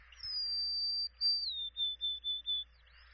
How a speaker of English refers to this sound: All right, here's a golden crown sparrow.